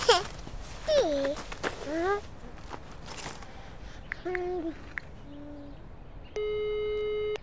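telephone ringing tone

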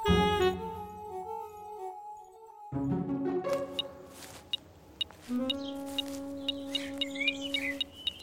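metal detector beeping

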